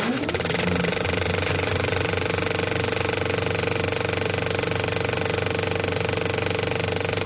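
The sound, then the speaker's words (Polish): An analog 35 mm film projector in a cinema runs steadily, its rapid, even mechanical rattle and whirring hum holding at a constant level throughout, with no voices. “I tak właśnie terkocze analogowy projektor na taśmę o szerokości 35 mm.”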